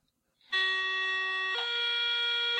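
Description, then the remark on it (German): A voice imitates an S-Bahn door-closing signal: a loud, steady, buzzy tone held for about a second, then stepping up to a slightly higher pitch and sustained to the end. “Aber es ist schon original das S-Bahn-Türschließgeräusch, ne?”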